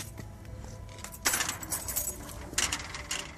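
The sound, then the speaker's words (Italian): Metallic keys jangle and clink in two bright bursts, moderately loud, with a low hum underneath and no voices. “Camice e chiavi. Allora, le chiavi determinavano il tuo grado di potere.”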